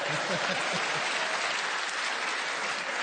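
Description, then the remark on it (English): A sustained round of audience applause on a panel game show after a panellist's challenge about Cinderella, dense clapping at an even level throughout, with a few brief voiced murmurs in the first second. “Well, all I can say is, Steve, you got a good round of applause.”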